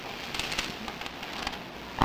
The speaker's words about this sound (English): Hoot owl is all I remember.